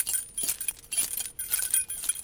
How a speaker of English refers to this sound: The metallic jangle of keys mimics the sound of jostling armor surprisingly well